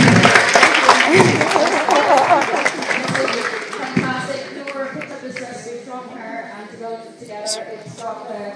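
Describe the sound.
An audience bursts into loud, dense applause for a 91-year-old woman that fades after a few seconds, leaving a murmur of crowd voices and chatter.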